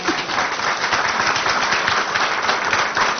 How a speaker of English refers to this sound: Now we will turn... You know, I guess we clap.